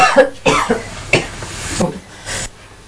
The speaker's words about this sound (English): I think that's what's making it worse. I'm twisting my head around that fast. I'm nowhere near the food. I think it made me cough even more.